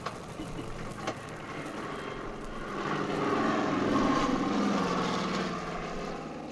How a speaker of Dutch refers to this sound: Daar is weer het vliegtuig en daar vallen weer de zakken naar beneden. Ze vallen precies op de spoordijk. De piloot weet het goed te mikken.